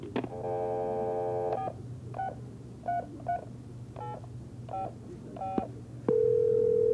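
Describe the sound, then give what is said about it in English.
A steady telephone dial tone hums, then a series of about eight short touch-tone beeps are dialed at an uneven pace, followed by a loud continuous tone, with no voices. “But I wonder if I could use a phone.”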